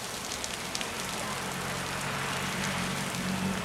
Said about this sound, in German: Schon am Morgen werden wir von grossen Tropfen geweckt, die durchs Zeltdach kommen. Es wird Herbst auch in Mexiko, es ist der Anfang der Regenzeit.